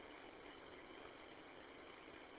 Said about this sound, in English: Different car in the parking lot. Wonder who in the heck that is.